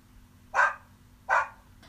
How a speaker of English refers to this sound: Oh, it's a cute little dog. Oh, come here, boy.